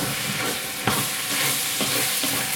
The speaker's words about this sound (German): So, und Leute, vergesst nicht zwischendurch immer wieder zu rühren, ne? Also, ein bisschen rühren ist das A und O, damit du das unten immer ein bisschen hochkriegst.